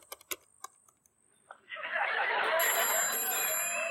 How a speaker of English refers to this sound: when they hear the phone ring.